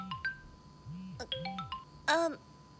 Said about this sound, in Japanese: え、電話。ちょっと待って。